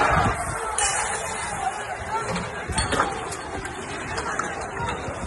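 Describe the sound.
A dense crowd murmurs and chatters outdoors in the surroundings of the Real Arena de Anoeta before a football match, a steady babble of many voices with occasional louder shouts rising briefly above the continuous hubbub.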